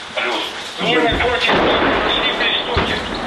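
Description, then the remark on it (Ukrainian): Artillery shelling of positions held by the Donbas battalion in Shyrokyne, Ukraine: several heavy, rumbling booms land in quick succession, the loudest around the middle, over a constant roar of noise, with faint voices briefly audible near the start. “Після артобстрілу починає працювати стрілецька зброя.”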